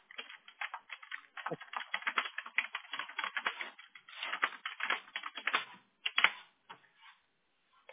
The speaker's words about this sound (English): It's like when you're typing and it's like barely playing catch up.